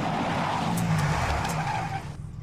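A taxi cab brakes hard with a loud, sustained tire skid and low engine rumble, the screech fading as the vehicle comes to an abrupt stop.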